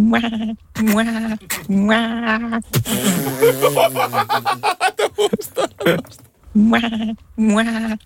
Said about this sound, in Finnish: On kyllä nonchalant vuohi.